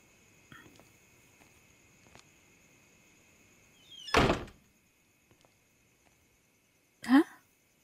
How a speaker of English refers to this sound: Oh, yeah. I did forget my key. How stupid of me. Good thing you're here to open the door for me, sweetheart. Thanks.